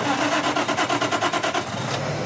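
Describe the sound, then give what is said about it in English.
The engine of a latest-generation natural gas-powered truck cranks with a quick, rhythmic chugging for over a second, then catches and settles into a steady rumble. “The sound of someone firing up a truck engine.”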